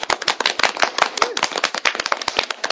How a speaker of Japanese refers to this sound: はい、ありがとうございます。じゃあ拍手。